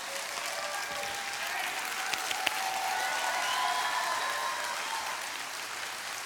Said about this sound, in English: Come on, give my friend a big hand clap.